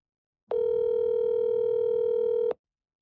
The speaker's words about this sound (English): The phone rang a third time.